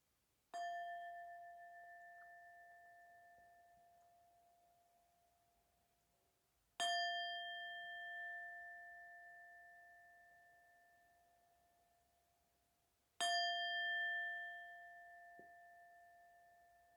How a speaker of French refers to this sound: Et au troisième son du gong, vous pourrez ouvrir vos yeux.